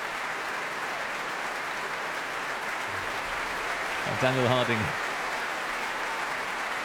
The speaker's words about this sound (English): Well, here he is back at the front of the stage here at the Royal Albert Hall. Cheers from the audience. Applause, tapping of bows from the members of the Mahler Chamber Orchestra.